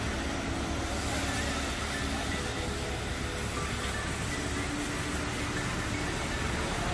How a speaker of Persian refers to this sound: همینطور هم ماشین جدید داره میاد تو.